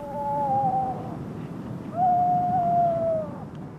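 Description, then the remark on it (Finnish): A Madeiran storm petrel, a bird that calls at night, heard from loudspeakers, gives two long, eerie wailing calls, each a steady mid-pitched tone that sags slightly at the end, the second longer and louder, over a low rumbling background. “Tämä laji on suomeksi Madeiran viistäjä.”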